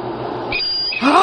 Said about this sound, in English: The next one is actually the sound of a hard drive while it is crashing, apparently.